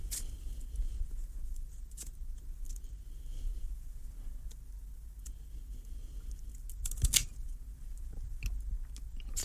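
Scissors snip through a cigar: a few sharp, crisp clicks and a louder cutting crunch stand out against a steady low rumble, with faint rustling in between and no talking.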